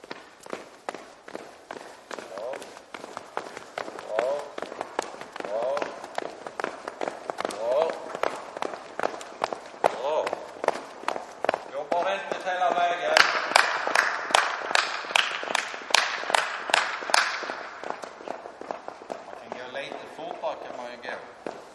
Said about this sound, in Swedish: Sju killar och tjejer i träningskläder trampar igång efter varandra